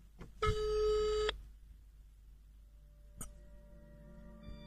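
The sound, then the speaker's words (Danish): A single electronic ringback tone sounds for about a second, steady and bright, on a call to the SOS and Star Alliance phone number, followed by a click and a faint hum as the line connects. No one speaks. “Det er det nummer, vi har ringet på. Og vi har jo ringet så mange gange til den telefonsvar.”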